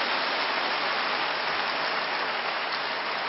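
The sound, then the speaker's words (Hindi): Dense, steady applause from a large crowd congratulating a spiritual leader on her 99th birthday, a continuous loud wash of many hands clapping at once with no voices breaking through. “1 तारीख को दादी का 99वें जन्मदिन मनाया, तो दादी को हम सब की तरफ से बहुत बहुत बधाई और जोरदार तालियों के साथ।”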